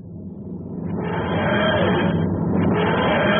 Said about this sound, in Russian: Боже, что это? Это лучший звук в мире. Так звучит машина времени доктора Кто.